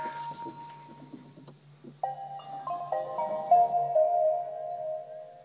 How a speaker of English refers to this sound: Those little dulcet tones you heard were the startup chimes of the Nissan Leaf, I think, very Japanese.